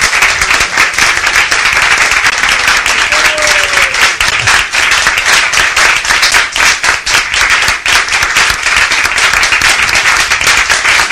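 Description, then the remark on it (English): Steady, dense applause from an audience fills the whole stretch, many hands clapping at once in a loud, continuous wash with no voices standing out. “Anyone who claps for this chapter will be empowered by the Narayana Kavacha Shield.”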